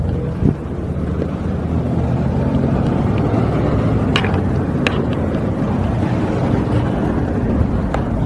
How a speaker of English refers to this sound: It's sunny, bordering on hot, but it's not actually hot today. Walking through stuck traffic, lots of fun.